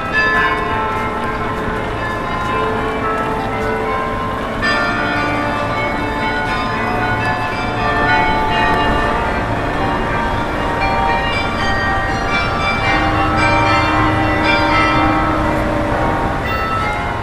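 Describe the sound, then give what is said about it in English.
Church bells in Bruges ring out a continuous melody in the morning as cycling race riders line up, many overlapping tones chiming in a steady musical pattern rather than single tolls, loud and rich with lingering resonance and no voices. “Well, that was the sound of the bells in Bruges, not so much tolling but playing this beautiful music.”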